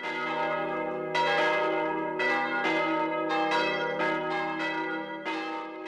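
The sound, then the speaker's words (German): Church bells ring continuously, with repeated bright strikes roughly every second over a sustained, overlapping hum of resonant tones. Loud, no voices. “Wann immer eine Glocke läutet, passiert etwas Wichtiges, etwas, das alle betrifft.”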